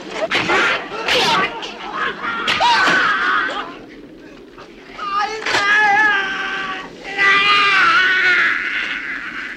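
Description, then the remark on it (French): Foley for an arm being cut, made by chopping a chicken stuffed with chopsticks: a few sharp, wet crunching whacks burst out over loud, strained cries and wailing vocal sounds that rise and fall throughout. “on dit le bras, c'est donc un bruit de poulet”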